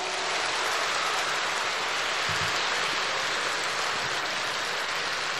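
Dense, steady applause from an audience, a constant crackling wash of many hands clapping that holds at an even loudness throughout, with no voices over it.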